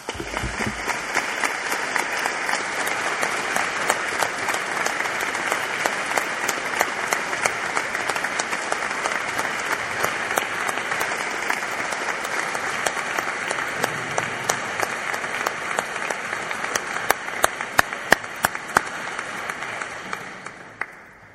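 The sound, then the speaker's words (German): An audience breaks into sustained applause for two church choirs, many hands clapping in a dense, steady wash for about twenty seconds, with a few sharper claps standing out near the end before it tapers off. “Die beiden Kirchenchöre haben doch einen Applaus verdient.”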